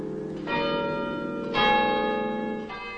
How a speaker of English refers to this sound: Later, outside in the night, a tower clock strikes one.